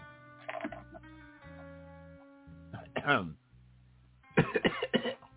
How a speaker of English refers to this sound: Cue the cough. Cue the cough.